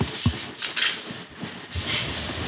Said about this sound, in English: It's the longest train in history.